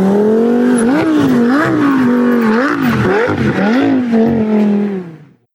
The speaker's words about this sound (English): I mean, there's even a video of him doing donuts in this Audi A8 in an Office Depot parking lot.